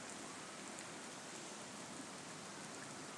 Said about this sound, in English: So I just thought everyone would want to hear the rain. Rain in Wichita. How fun.